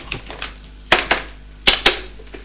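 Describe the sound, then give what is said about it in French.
A police officer dials a phone number: a few sharp clicks in irregular pairs, with softer taps between them, and no voices. “Puis, il prend son téléphone pour faire un numéro.”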